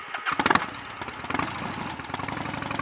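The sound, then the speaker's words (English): Frank's motorcycle engine cranks and sputters to life with a loud burst, then settles into a steady, rapid throbbing rumble that stays fairly loud as Joe rides off on it, with no voices. “After seeing Joe off on Frank's motorcycle”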